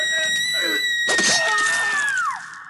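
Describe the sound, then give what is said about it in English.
A woman screams in terror, one long piercing shriek held for over two seconds before it drops away, with a loud crashing thud breaking in partway through. “It sounds like he killed her male receptionist while she screamed in terror.”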